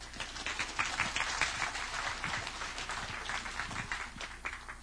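A crowd applauds steadily for about five seconds to welcome a speaker, a dense patter of many hands clapping at an even loudness, with no voices over it.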